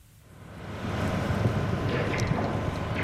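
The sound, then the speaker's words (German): Wind blows at a citizen-owned wind farm near Hennstedt in Dithmarschen, Schleswig-Holstein, Germany, in a steady, low rumbling roar that swells up over the first second and then holds, buffeting the microphone, with no voices. “Ein Bürgerwindpark in der Nähe von Hennstedt in Dithmarschen.”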